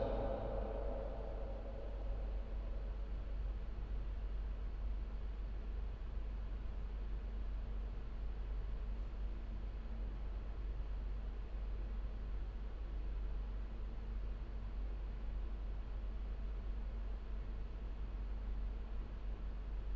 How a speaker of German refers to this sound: Metallbauwerkstatt.